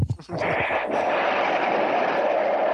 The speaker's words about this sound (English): What the fuck? That was an explosion. That was the monster dying. Oh, it sounded more like someone blowing their nose.